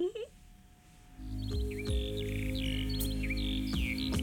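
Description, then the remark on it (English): Real bird chirps and trills, recorded as part of a song, repeat in short bursts over a steady, sustained musical backing that swells in after a brief quiet start, the birdsong sitting clearly on top. “And you'll hear it used real bird sounds, which was a novel.”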